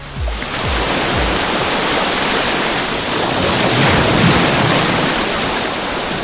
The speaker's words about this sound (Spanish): Hoy el agua está más tranquilita de la que encontramos ayer en La Guardia. ¿Y cómo suena la playa? Pues así.